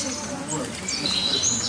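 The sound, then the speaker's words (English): Birds chirp in short, thin, high-pitched calls that grow more frequent toward the end, set over a low, steady background murmur that may include voices, at Vaughan Town, where people speak English. “I'm not talking about the birds chirping.”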